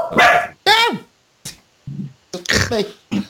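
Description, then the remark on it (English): A dog barks loudly in a quick, uneven series of sharp barks and yips, with one low growl-like bark in between. “Even the dog wants Unico glasses.”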